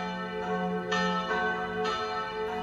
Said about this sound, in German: Meine Eltern machten dort immer Station, besuchten Freunde und morgens wurden wir durch ein enormes Glockengeläut von St. Kilian geweckt.